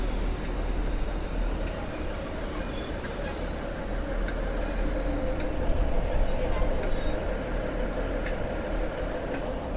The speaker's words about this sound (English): My train is here. My train is here. I'm about to board it.